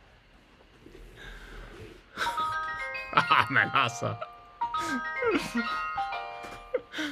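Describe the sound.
The ring button of a walkie-talkie is pressed repeatedly, its notification ping chiming in bright ringing tones in several bursts that start after a quiet moment, while a person talks over them.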